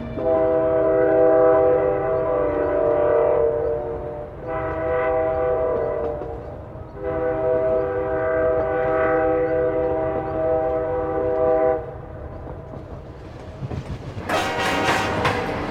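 A train passes on the tracks with a steady low rumble, its horn sounding in long, loud blasts, then a sharp high-pitched squeal near the end. No one speaks.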